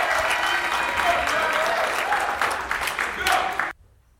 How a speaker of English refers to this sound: give a round of applause as you come to the mic.